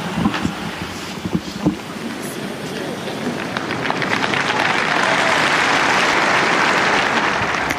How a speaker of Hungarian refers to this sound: Kedves hallgatók, a mai napon is a Szent Péter téren jelenlevő zarándokok tapssal köszönik meg a Szentatya áldását, az ő szavait, az ő tanítását.